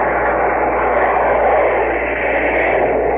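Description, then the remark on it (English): A loud, steady roar of warplanes flying low overhead during the Normandy landing, continuous and droning throughout, with a muffled, hissy old-recording quality and no voices. “All planes are going overhead.”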